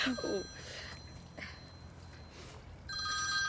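A telephone rings in two bursts, one at the start and another after a pause of about two seconds, each a bright, high-pitched steady trill over a low background hum.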